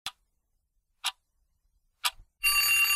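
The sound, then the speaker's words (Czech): Three slow, evenly spaced ticks of a clock, one each second, followed abruptly by the loud, continuous metallic ringing of an alarm clock bell. “Teď vám dám 3 sekundy na rozmyšlenou, to je jako kdybych napočítala do 3 a po zazvonění budíku vám řeknu správnou odpověď.”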